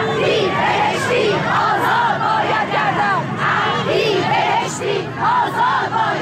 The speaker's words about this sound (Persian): در گردهمایی اعتراضی فرهنگیان بازنشسته در یزد هم، تظاهرکنندگان روز پنجشنبه در اعتراض به وضعیت جاری و تداوم مشکلات شعارهای مختلفی سر دادند: معلم زندانی، کارگر زندانی، آزاد باید گردد